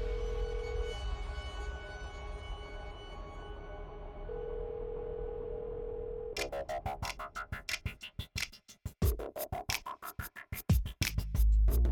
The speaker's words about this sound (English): Once he felt ready, Gilbert picked up the phone and dialed the number for his lawyer, fully prepared to lie his way out of yet another murder.